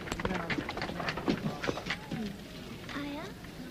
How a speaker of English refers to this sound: Night falls on the streets of Lahore. Hassan takes a horse-driven cart with Shanta and Lenny.